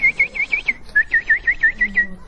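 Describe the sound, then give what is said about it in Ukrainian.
A voice imitates the whistling peeps of little ducklings: a quick run of about a dozen short, high whistled chirps in a steady bouncing rhythm, fairly loud, with no talking. “Маленькие утята, они как, свищут, тю-тю-тю.”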